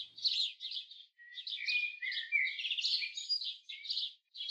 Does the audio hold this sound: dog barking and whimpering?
no